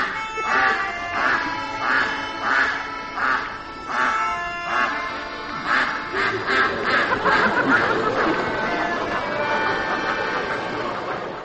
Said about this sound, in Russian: Это был ахающий гусь из спектакля «Невидимый цирк».